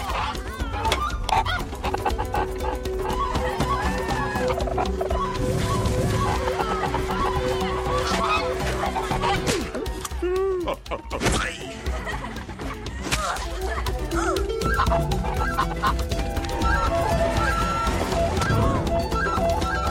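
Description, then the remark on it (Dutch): A goose honks and cackles loudly and frantically while monks chase it in a cloud of dust among playing children, over a busy, continuous commotion, with overlapping squawks and scattered vocal sounds filling the whole stretch. “Dan ziet Brandon opnieuw de gans. De andere monniken erachteraan in een stofwolk”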